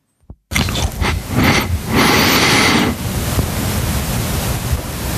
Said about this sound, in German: wie er ins Headset reinatmet. Also in diesem Noise Floor ist auch das Atmen drin. Aber das ist ja auch eine Eigenheit von diesem Mikrofon, wie stark dieses Vader mit hineinkommt.